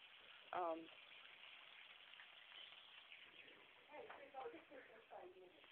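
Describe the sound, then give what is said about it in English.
Fish frying in a pan gives off a steady, crackling sizzle throughout, with short bursts of a voice rising briefly over the hiss. “I'm sorry, I'm frying fish.”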